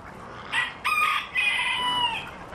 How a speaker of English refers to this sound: And actually that cock there, that he came from Kerry.